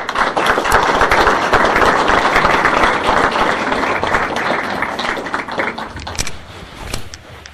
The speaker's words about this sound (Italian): Ecco, da questo punto di vista lo accogliamo anche simpaticamente con un applauso.